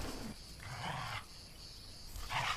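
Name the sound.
cicadas chirping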